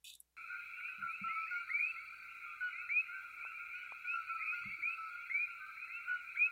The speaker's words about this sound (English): There's also interesting frequencies from some things in nature. Here we have some Koki frogs that have a similar frequency. Let's check this out, how close they are to that.